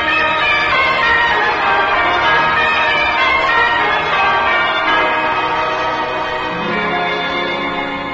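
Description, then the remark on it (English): A large bell, a new Liberty Bell at its dedication, rings loudly and continuously, its rich, layered overtones swelling and overlapping into a sustained metallic wash with no voices present. “ladies and gentlemen, to carry on with our dedication of our new Liberty Bell,”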